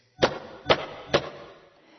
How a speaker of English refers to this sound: I found the door. This is it. Oh, is it locked? I think I'll knock first, just in case.